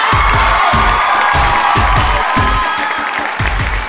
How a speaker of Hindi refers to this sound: हाय Aamir, once again. फिर से ताली बजाइए प्लीज.